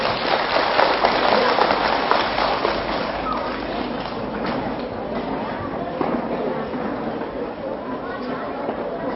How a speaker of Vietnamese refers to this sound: Nếu các cháu thấy rằng là việc làm này là rất nên làm và làm dễ như là ăn cơm uống nước, thì hãy dành một tràng vỗ tay thật lớn, thật giòn giả.